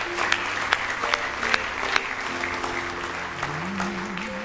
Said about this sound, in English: Oh, give the Lord a hand clap of praise here. Give Him a praise offering. Hallelujah.